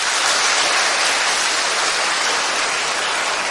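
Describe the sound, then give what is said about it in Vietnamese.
A large crowd of children at a Buddhist dharma talk claps loudly and steadily, a dense, continuous roar of many hands for a few seconds, with no voices heard over it. “Giỏi lắm, cho một tràng pháo tay.”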